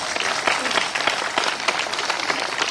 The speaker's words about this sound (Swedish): Välkommen. En applåd är han faktiskt värd.